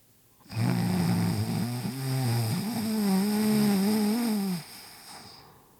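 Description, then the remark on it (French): A giant, asleep in a tiny bed too small for him, gives a single loud, drawn-out snore that rumbles for about four seconds, deep and raspy with a wavering pitch, then cuts off into quiet. No one speaks. “Alors, il va se jeter dans le tout petit lit, trop petit pour lui, et il déborde de partout, s'endort là et ronfle.”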